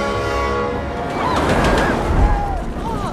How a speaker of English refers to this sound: And why are we chasing a runaway train?